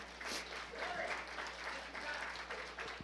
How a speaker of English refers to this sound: So we thank God for that. Would you give the Lord a round of applause for that?